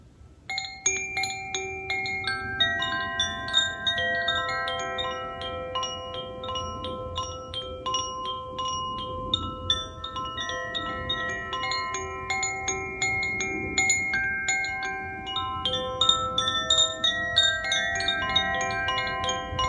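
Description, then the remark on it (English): A Koshi Chime, a highly tuned wind chime, rings with overlapping tuned tones continuously, sweet and bell-like, with many sustained pitches layering and fading into one another in a gentle, irregular shimmer. No one speaks. “It's called the Koshi Chime, and here it is. It's a wind chime, but it's also actually a very highly tuned instrument, and it has the sweetest of tones.”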